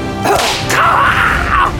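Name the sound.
whip crack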